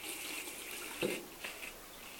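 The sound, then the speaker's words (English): A kitchen sink tap runs with a steady, soft hiss of flowing water, broken by a couple of brief splashy bumps midway. No one speaks. “Oh, and I ran the sink at the same time because, you know, I probably needed some water.”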